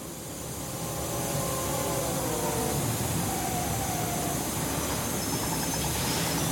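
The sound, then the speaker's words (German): An overcrowded, stuffy train of 1887 rolls steadily along the rails, a dense continuous rumble and rattle at constant loudness, with a faint tonal whine drifting through the middle. No voices are heard. “2,5 Monate verbringen sie in Schiffen, die im Sturm hin und her wackeln und in überfüllten, stickigen Eisenbahnen.”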